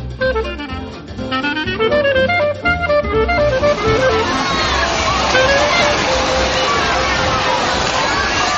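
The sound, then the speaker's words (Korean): A few seconds of music fade into a steady wash of splashing water, ride sounds and a busy crowd's hubbub at the outdoor water park pool inside the large Kings Dominion amusement park, loud and continuous with no single voice standing out. “네, 시원한 물소리, 또 놀이기구 소리가 들리는 이곳은 킹스 도미니언이라고 하는 대형 놀이공원 안에 마련된 워터파크, 야외 수영장입니다.”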